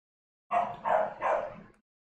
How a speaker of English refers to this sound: It's okay. Keep barking.